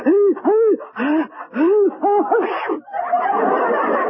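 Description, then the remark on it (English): Several rising, gasping "ah" breaths build up in quick succession before a loud sneeze bursts out, followed by a breathy, noisy trailing exhale. “Bless you.”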